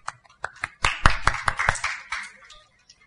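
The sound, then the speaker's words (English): A short burst of applause from a small church group for a volunteer coming up to review last week's sermon. Scattered claps start up, build into a dense flurry of sharp hand claps, then taper off to a few stray claps after about three seconds. “Yes, please, clap for him.”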